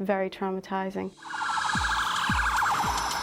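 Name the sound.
ambulance siren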